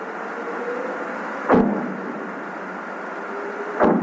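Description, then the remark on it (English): Two sharp underwater bomb blasts, set by fishermen off the coast of California to scare sea lions away from their catch, about two seconds apart, each a sudden deep thump that briefly swells above a steady, rushing background hiss, with the call of a humpback whale also audible. “These are the sounds of underwater bombs off the coast of California set by fishermen to scare sea lions away from their catch.”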